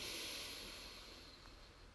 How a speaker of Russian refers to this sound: Сделайте вдох через нос.